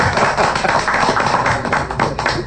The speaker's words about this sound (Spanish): Bueno, dense un aplauso, hombre.